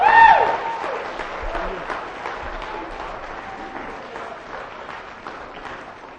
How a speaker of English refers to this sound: Let's give a round of applause for the actors. Thank you very much.